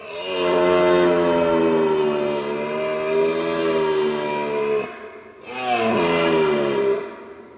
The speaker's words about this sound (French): Alors le son, hein, ce brame du cerf, on va écouter à quoi ça ressemble.